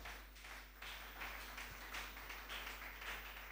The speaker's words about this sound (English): Praise God. I hope we enjoy this secret. I appreciate God by clapping your hands.